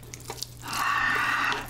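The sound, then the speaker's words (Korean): A few soft drips and small splashes give way to a steady stream of noodle cooking water being poured into a bowl of Buldak spicy stir-fried noodles, a bright continuous gurgle that runs for about a second before tapering off. “면수를 조금 넣고 제가 좀 촉촉하게 먹도록 하겠습니다.”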